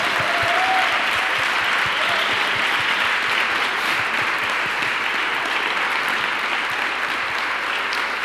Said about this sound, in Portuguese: Você pode dar uma salva de palmas aí?